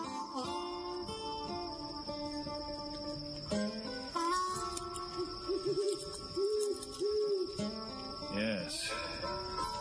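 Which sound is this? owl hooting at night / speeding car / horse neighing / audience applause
owl hooting at night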